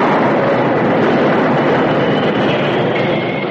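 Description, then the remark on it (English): A Union Pacific train for Pine City brakes at first light of morning just past the summit of Holly Hill, the engineer jamming on the brakes for a fallen pine across the tracks less than 100 yards ahead: a loud, steady roar of grinding metal and rushing noise, with a thin high squeal emerging near the end. No voices. “The first gray light of morning was spreading over the eastern sky as the Union Pacific train for Pine City labored up Holly Hill. Just as the summit was reached, it began to pick up speed once more.”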